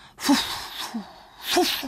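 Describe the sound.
A voice puffs out breathy, panting gusts, two strong bursts with a softer one between, imitating the east wind huffing and blowing. Fairly loud, with no other sounds around it.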